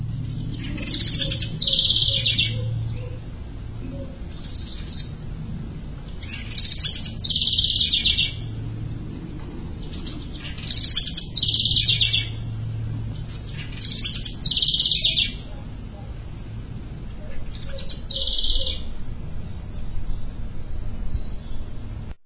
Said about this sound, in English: Sounds like a tape being played backwards or something. But, yeah, that's a little tiny bird that makes all that noise. And if anybody knows what it is, please let me know.